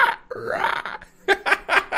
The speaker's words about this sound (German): Jetzt hab ich auch noch Schluck auf. Tolle Scheiße. Aber ich kann es nicht ausstehen, wenn ich Schluck auf habe.